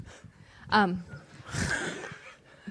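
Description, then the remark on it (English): A dog snores in its sleep, one rough, rasping breath swelling for under a second, preceded by a short vocal burst like a chuckle. It sounds moderately loud. “Dog's sleeping, snores”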